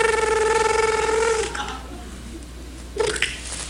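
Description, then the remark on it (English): A voice imitates a telephone ringing for a call to a 911 operator, a steady, buzzing, pitched tone held for about a second and a half, then falls quiet before a brief vocal burst. “Okay, so can you make a ringing noise?”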